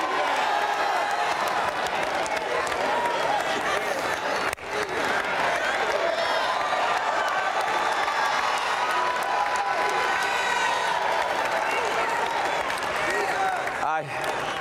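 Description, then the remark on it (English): An audience at a gospel sermon erupts in loud, sustained screaming, hollering and applause, a dense wall of excited voices and clapping that barely dips for the whole stretch, with brief lulls near the middle and end. “I so apologize for all this screaming and hollering.”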